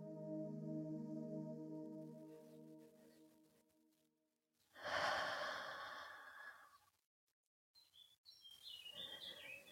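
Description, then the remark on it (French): A single deep, airy breath, taken during a guided stretching exercise, rises and fades over a couple of seconds, preceded by a steady humming tone and followed by light bird chirps. “Profonde respiration.”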